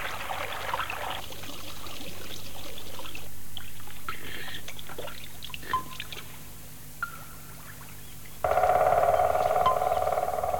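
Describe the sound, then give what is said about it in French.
Running water from three streams trickles and burbles in three distinct passages, each with a different texture, the last one louder and brighter. No one speaks. “Les trois ruisseaux.”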